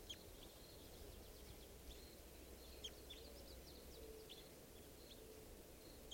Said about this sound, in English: Just recorded that bird. She'll be JGG459. Red Crossbill 557.